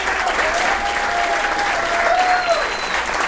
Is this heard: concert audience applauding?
yes